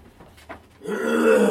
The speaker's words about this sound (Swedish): Den senare som rullar ut från sin stol, harklar sig, snorar och låter allmänt otrevligt. Sånt man måste klippa bort från bandet.